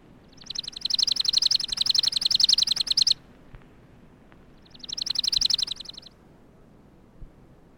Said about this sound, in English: Chipping Sparrow.